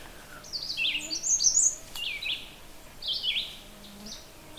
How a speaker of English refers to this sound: And I'm kind of looking at like as a background sound, and that's a red-eyed vireo, very, very common bird.